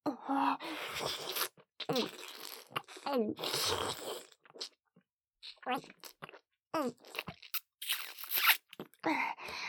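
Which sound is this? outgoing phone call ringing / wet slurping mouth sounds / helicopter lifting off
wet slurping mouth sounds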